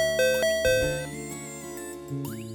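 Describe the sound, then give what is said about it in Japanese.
A bright electronic ding-dong chime from a handheld chime device, used while practicing for radio, rings out clearly on its own, a short sequence of resonant tones that sustain and overlap before a final note sounds near the end. “もしかしてプロデューサーもラジオの練習？ピンポンも持ってるみたいだし。”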